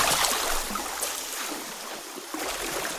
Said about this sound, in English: As soon as he saw the gentle waves of the river Furat, the pigeon jumped right in.